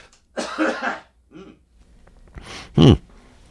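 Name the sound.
coughing and throat clearing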